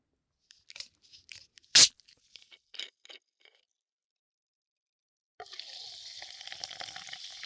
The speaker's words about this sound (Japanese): このサイダーもパチパチって音するよね。